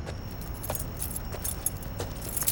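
Keys jingle and clink in a car's ignition in several light metallic bursts over a steady low rumble. No one speaks.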